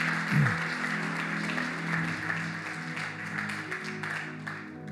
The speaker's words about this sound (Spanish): Les damos un fuerte aplauso a Amada Iglesia.